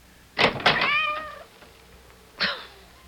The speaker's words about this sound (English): I didn't know he was still out. I thought we'd already let him in. That cursed cat! Go away! Away! He's soaking wet, dripping with water.